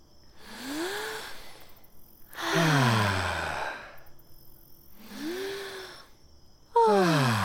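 Several voices take slow, deep breaths in unison after brushing their teeth, filling their lungs like a big balloon: a rising, airy inhale followed by a loud, falling sigh of an exhale, repeated twice, with the second sigh cut off at the end.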